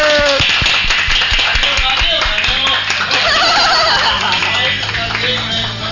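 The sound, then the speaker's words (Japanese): A small group applauds the master at the close of a Gakudai FM radio broadcast, a dense patter of hand claps that keeps up steadily for several seconds, with voices mixed in underneath. “マスターに拍手。”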